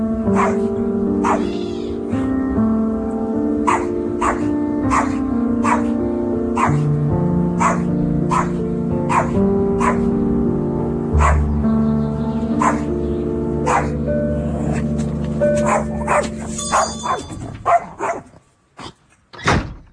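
A pet dog barks repeatedly in short, sharp bursts over a steady tonal backing, the barks coming quickly before trailing off into a few scattered yaps.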